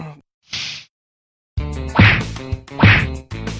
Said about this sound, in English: Whoa, what are you doing to that poor bag? What did he do? Did he punch your husband? I doubt a bag would ever do that. Stop punching him.